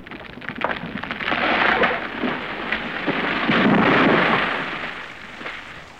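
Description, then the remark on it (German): A storm rages at night with dense, hissing rain while thunder from a lightning strike rumbles and swells in two loud, rolling surges, powerful, with no voices. A huge lightning bolt strikes a ship, breaking its main mast. “Da, ein gewaltiger Blitz traf das Schiff. Der Hauptmast brach.”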